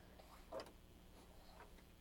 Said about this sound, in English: Yeah, it's a clock. Oh, you liked that one the last time.